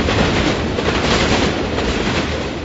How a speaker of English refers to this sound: Some very kind person has put this sound effect together, forgetting that one engine does not pull what appears to be 134 carriages. Yep, still going. It's the world's longest train.